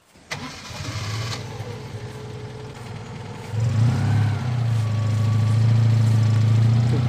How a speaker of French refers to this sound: Et là, on va regagner notre cheval d'acier de la marque Citroën et de la puissance de 2 chevaux.